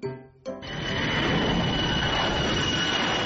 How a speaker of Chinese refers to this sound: 这个不是，这一听就是个战斗机，这一听就不是，这个声音不对。